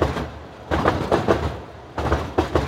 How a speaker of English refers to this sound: Sometimes I find myself nodding along to like the rhythmic hum of the Uptown C train. And I'm like, is this music?